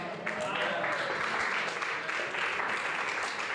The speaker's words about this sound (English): See, we only get a partial hand clap. Sunset Hills, I don't know how it went over there, but you only get a partial hand clap if it looks like an inconvenient blessing.